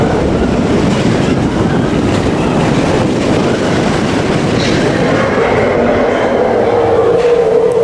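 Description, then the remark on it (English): A roller coaster train barrels along its track through a mountain, a loud, continuous rumble with rattling clatter underneath and a faint higher whine rising toward the end. No voices. “The train barrels through the mountain.”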